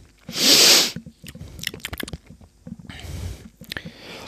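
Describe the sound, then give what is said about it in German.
A dark carbonated drink that looks like blackberry juice fizzes in a glass: a loud burst of hiss, then scattered crackling pops of bubbles and a second, softer stretch of hissing. No one speaks. “Während das hier sprudelt”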